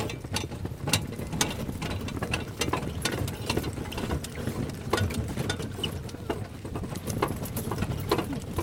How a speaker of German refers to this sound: Pferde-ExpertInnen hören wahrscheinlich schon an den Schritten der Pferde, dass das eine andere Gangart ist. Und ich musste mich wirklich schon festhalten an dieser Kutsche.